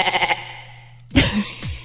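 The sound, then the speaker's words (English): A goat bleats twice, first a quavering, wavering cry, then a harsher, louder bleat that trails off, with no voices around. “I almost used a goat sound.”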